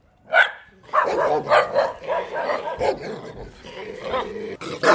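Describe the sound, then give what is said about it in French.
A large mountain shepherd dog, similar to a Pyrenean dog, barks once, then keeps up a loud run of deep barks mixed with rumbling growls for several seconds. “Le Skubas, alors c'est comme un chien des Pyrénées, un peu. Un chien de montagne, quoi. Un gros berger.”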